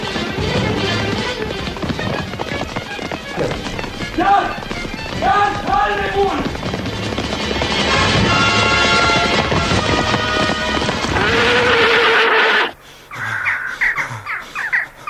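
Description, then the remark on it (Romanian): A horse carrying its rider toward the gallows gallops and whinnies amid a loud, busy soundtrack of music and shouting, the pounding hooves carrying on until an abrupt cut near the end leaves quieter scattered sounds. “Ciudată purtare pentru un cal. Își duce călărețul la spânzurătoare.”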